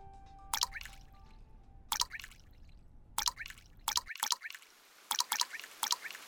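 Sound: rain starting to fall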